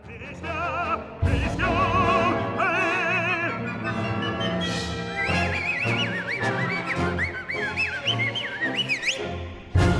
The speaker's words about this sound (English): What's up with all that whistling? Well, he's not doing it to be cute. Just the opposite. Basically, he whistles on purpose just to be annoying and set your ears and your teeth on edge.